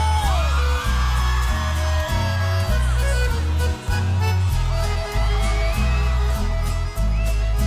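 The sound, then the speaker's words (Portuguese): A crowd of single women shouts and whoops in answer to a call for them to shout, their rising cries scattered over loud, steady music with a heavy, pulsing bass beat that keeps going throughout. “As mulher largada, solteira, dá um grito.”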